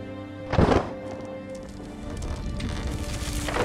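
A heavy thud hits early as a phaser rifle is fired into a well to break through bedrock, then a steady low rumbling continues with a gritty, rain-like hiss and a faint droning hum underneath as the ground shakes.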